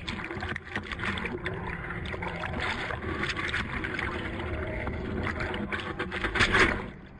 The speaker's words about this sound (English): They have a new film called Leviathan, which is about being on a commercial fishing boat off the coast of Massachusetts.